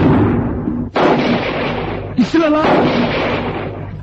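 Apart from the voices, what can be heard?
rifle gunshots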